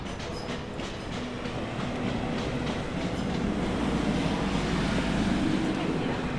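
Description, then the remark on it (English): A train rumbles along the railway tracks leading to Victoria Station in London, a steady low roar that swells slightly louder over several seconds, with faint clattering from the wheels and a hint of voices in the background. “So we're walking over the train tracks that lead to Victoria Station, which means that we are getting close to the Western Pumping Station in Chelsea”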